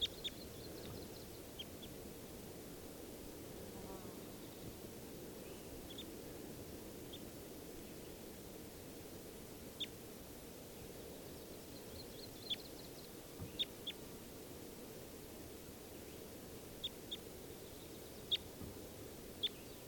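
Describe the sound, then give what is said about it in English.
A bird calls in faint, short, high-pitched chirps that come irregularly over about twenty seconds, above a steady low rushing noise. No one speaks. “here's that bird again. I think this is the bird that escaped.”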